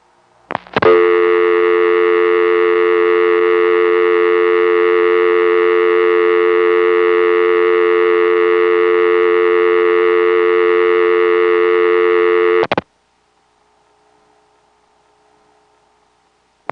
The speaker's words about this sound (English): 12 seconds for dial tone timeout, and then just dead silence for as long as you want to leave your phone off the hook.